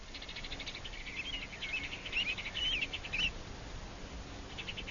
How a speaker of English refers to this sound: The sunlight was so bright it danced as I walked up to the Sternwood place. The birds in the ornamental trees were crazy with song after the rain.